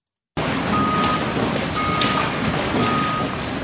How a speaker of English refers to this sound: Outside the Monticello Transfer Station, dozens of trucks drive in and out of Landfill Drive just off Broadway. Haulers pull into the landfill's tipping floor, unload, and keep on moving.